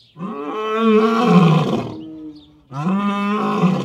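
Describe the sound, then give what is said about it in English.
Two long, deep roars from African lions calling to each other on a cold, sunny afternoon at Turpentine Creek Wildlife Refuge, the first swelling into a rumbling groan before fading, then a second powerful roar answers after a brief pause, loud. “African lions carol to each other this cold, sunny afternoon, claiming their stake on Turpentine Creek Wildlife Refuge.”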